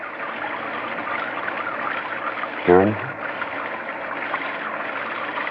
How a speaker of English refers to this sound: Just the rain.